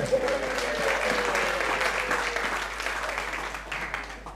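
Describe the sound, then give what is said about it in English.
An audience breaks into steady, dense applause for nurses, a continuous wash of many hands clapping at an even, fairly loud level for the whole stretch, with a faint voice murmuring underneath. “You can give the nurses a clap if you want.”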